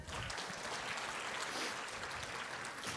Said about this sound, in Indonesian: Okay, beri tepukan.